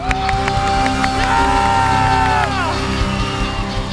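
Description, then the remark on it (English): A loud, sustained burst of crowd applause and cheering, with dense clapping throughout and high whoops and shouts rising above it, holding steady for the whole stretch. “And I wonder if we could give them such a loud round of applause that in Wellington they could hear you tonight.”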